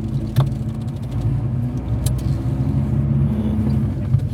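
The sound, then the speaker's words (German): A car drives past up ahead in pouring rain, its engine a steady low rumble with a hum that holds for several seconds, plus a couple of brief clicks and rattles, and no one speaking. “Da vorne fährt ein Auto.”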